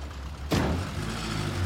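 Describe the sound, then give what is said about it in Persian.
A sudden thump, like a car door, as people get into a car, is followed by a steady low engine rumble that keeps running as the vehicle pulls away. No voices are heard. “سوار ماشین میشن.”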